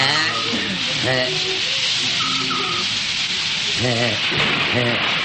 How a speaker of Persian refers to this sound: بارون میاد